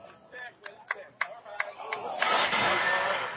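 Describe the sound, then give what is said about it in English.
A car engine outside cranks with a rapid series of sharp clicks, then catches into a steady, fairly loud rumbling roar that carries on to the end. “Yeah, got a car out there.”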